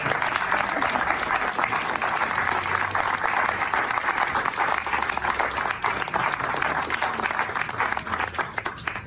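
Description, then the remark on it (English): Steady applause from a small crowd of about 20 to 25 people in a room as the former First Lady comes in, dense overlapping claps holding at an even level for about nine seconds without letting up, with no voices rising above the clapping. “But you can kind of tell from the applause as she's coming in, yeah, there's 20, 25 people tops in this room.”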